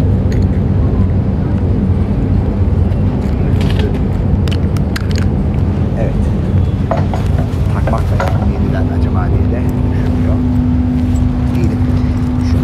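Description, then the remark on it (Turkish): Loud, steady engine rumble of a ferry waiting at the dock at 7:25, about to depart for Beşiktaş, Istanbul, with scattered mechanical clanks and creaks, a low droning hum joining partway through, and faint indistinct voices in the background. “İtibariyle vapurdayım arkadaşlar ve şu an Beşiktaş'a hareket edeceğiz.”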